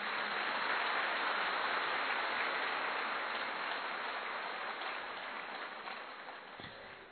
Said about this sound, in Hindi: बजाओ ताली।